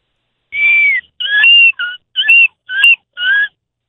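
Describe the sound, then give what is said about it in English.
A person imitates a seagull in a seagull-off contest, letting out six loud, high, whistly cries in quick succession. Each one is a short, wavering squeal, the first drawn out and the others clipped, with no other voices. “We're in the seagull off.”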